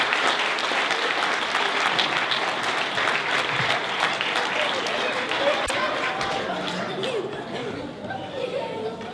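Sustained audience applause as someone comes onto the podium, a dense wash of many hands clapping steadily for about nine seconds, with some crowd murmur mixed in before it thins slightly near the end.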